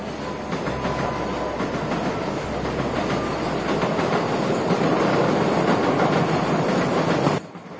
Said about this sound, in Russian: Поздний вечер. Станция метро. Всюду полированный камень.